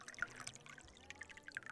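Champagne being poured into glasses for another round, a soft gurgle and fizz of liquid running steadily for a couple of seconds, with faint bubbly crackles and no voices.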